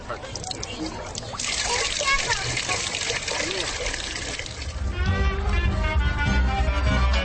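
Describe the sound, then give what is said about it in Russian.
A steady stream of water pours and splashes from a street water pump in an old town, continuous, while voices murmur in the background and grow more noticeable toward the end. “Убежать от шума можно в старый город с его узкими улочками, разноязычными туристами, извозчиками, голубями, торговцами, нищими, уличными музыкантами и колонками, в которых можно набрать воды.”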